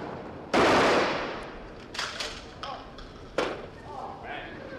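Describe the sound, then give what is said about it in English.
At a pigeon shoot in front of an antique store, a single loud gunshot booms and rings out in a long decay, followed by a few lighter sharp clacks and thumps as a shell casing lands on the ground and a shot pigeon falls. “But before you realize what's happened, the gun is fired, a shell casing lands on the ground, followed by a dead or dying pigeon.”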